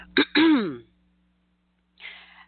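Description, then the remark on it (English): A fairly loud throat clearing: a quick harsh catch followed by a longer rasping, voiced rumble, then a pause and a soft breathy exhale. “Excuse me, let me clear my throat.”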